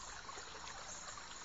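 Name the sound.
flowing river water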